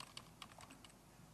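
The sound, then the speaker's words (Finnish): Light, irregular clicks of keys being pressed on a computer keyboard that has stopped working, about half a dozen quick taps at a quiet level with no voices. “Näppäimistö lakkas toimimasta.”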